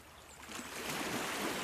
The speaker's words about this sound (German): Stell dir vor, dass du auf einem Hocker sitzt und du lässt deinen Blick über den See schweifen. Du hörst auf das Rauschen der Wellen